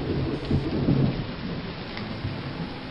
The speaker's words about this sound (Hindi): बाहर बहुत तेज़ बारिश शुरू हो गई है